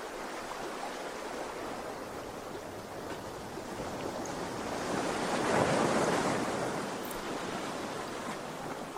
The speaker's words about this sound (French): Voyez les rayons de soleil qui scintillent sur les vagues. Humez l'air iodé que la mer vous offre